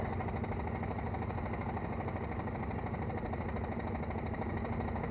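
An old car engine idles steadily while the car is stopped, a continuous low, even rumble with a faint mechanical hum, holding at the same moderate loudness throughout with no voices.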